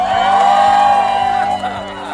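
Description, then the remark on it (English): A crowd cheers and whoops loudly and steadily for about two seconds, a dense wash of voices with some higher shouts rising above it. “But cheer louder if you're having fun.”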